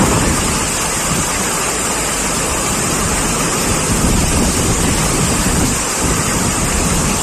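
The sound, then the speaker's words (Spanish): Heavy rain driven by strong, stormy wind in la Vall d'Uixó, a dense, steady roar of hissing noise that stays loud and unbroken throughout, with gusts swelling slightly and no voices. “Y llovía, por ejemplo, en la Vall d'Uixó.”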